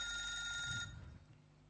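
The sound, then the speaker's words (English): A telephone rings with a call from Admiral Smith, a bright, steady electronic tone for just under a second, then cuts off, leaving quiet room noise behind. “I can hear the phone ringing.”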